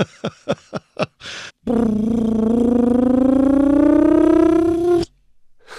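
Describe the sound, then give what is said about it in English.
A quick run of sharp clicks and a short hiss, then a loud phaser powering-up effect: a steady buzzing tone that climbs slowly in pitch for about three seconds before cutting off. “How do I make a phaser powering up sound?”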